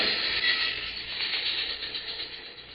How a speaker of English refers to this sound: Now, lie low till the train goes past.